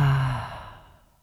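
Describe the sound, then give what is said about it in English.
A single forceful exhaled "ha" breath, voiced and breathy, starting strong and trailing off into a soft airy fade over about a second, heard on its own. It is the heart's healing sound in a qigong exercise, made after raising the hands and breathing in. “So bringing hands up, breathing in. Ha.”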